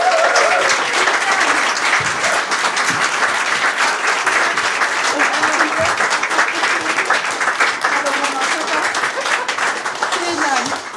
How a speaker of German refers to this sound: Und ich freue mich sehr, dass sie da ist. Einen riesigen Applaus für Lisa Feller.